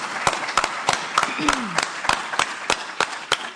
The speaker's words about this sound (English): So before he starts asking any questions, and anybody might get a little red in the face, let's give him a quick round of applause for all the work that he's put into this.